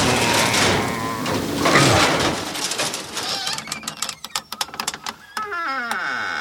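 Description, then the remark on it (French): A home's door being unlocked on returning from holiday: scraping and jingling, then a quick run of sharp metallic clicks and clacks, ending in a drawn-out, wavering creak-like whine. “Ouais, attends, je déverrouille la porte.”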